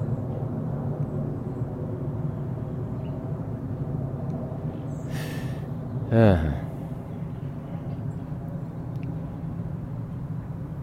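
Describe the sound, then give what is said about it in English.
A British Airways airliner taking off: a steady, heavy low roar with droning engine tones that holds throughout, broken by one brief louder thump partway through. “British Airways flies off.”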